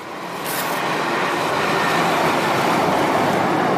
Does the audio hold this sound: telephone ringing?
no